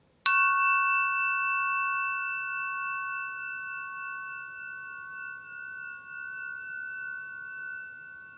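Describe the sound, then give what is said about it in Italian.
A single bell is struck once, giving a bright metallic attack followed by a long, steady ringing tone that slowly decays over several seconds, heard alone with no talking. “Fai attenzione al suono dal momento in cui comincia fino a che finisce.”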